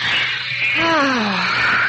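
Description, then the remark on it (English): A single drawn-out alley cat yowl rises out of steady background hiss, wavering and sliding downward in pitch for about a second before fading. No one speaks. “It's just a plain, ordinary alley cat.”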